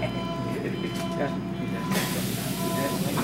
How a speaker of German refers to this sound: Ich soll nun die U-Bahn nehmen, in den Stadtteil Wedding. Viele Passagiere wirken wie Schauspieler.